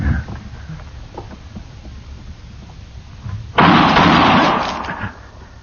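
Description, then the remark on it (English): A low, muffled rumble fills the first few seconds, then a single loud gunshot cracks out abruptly, its harsh blast ringing for over a second before fading away. “How did you know he was going to shoot, Matt?”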